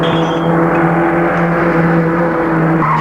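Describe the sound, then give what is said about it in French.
A loud car engine roars continuously, its pitch wavering and shifting as the car swerves in all directions after its driver, shot in the neck, slumps over the steering wheel; no voices present. “Et la voiture roule dans tous les sens.”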